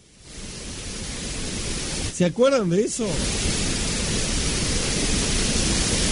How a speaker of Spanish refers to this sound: Pero ustedes saben lo que es el ruido rosa. A ver si lo tenemos ahí, si se siente. El ruido rosa. A ver si suena.